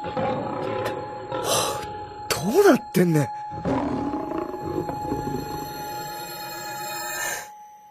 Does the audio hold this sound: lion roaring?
yes